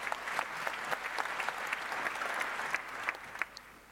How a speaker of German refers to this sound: Also gebt einen großen Applaus.